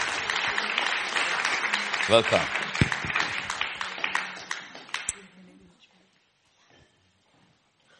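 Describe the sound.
An audience breaks into dense, steady applause for about five seconds. The clapping then tapers off into near silence, and a voice briefly speaks over it.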